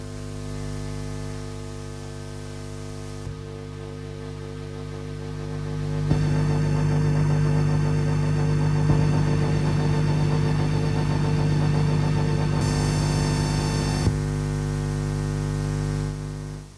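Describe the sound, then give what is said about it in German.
An organ played unconventionally by a sound artist, set so that it hisses hellishly, giving off a dense, hellish roar of hiss and low droning tones that swells sharply after a few seconds, holds steady and loud, then thins slightly near the end. “Ich habe es dann eben so eingestellt, dass es wirklich höllisch rauscht.”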